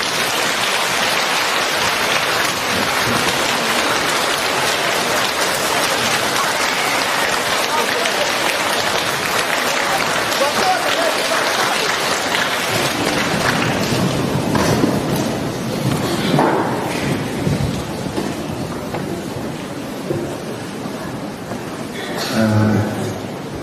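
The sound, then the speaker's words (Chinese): A large audience applauds warmly with dense, steady clapping for about fifteen seconds to welcome Lu Junhong to give a Buddhist teaching, then the applause thins and fades as a voice begins to come through near the end. “现在让我们用最热烈的掌声恭请我们尊敬的卢军宏台长为我们慈悲开示。”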